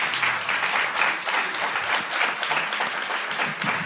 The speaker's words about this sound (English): I got applause. Beat that.